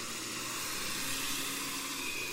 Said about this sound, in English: Compare that to a reef with boat traffic.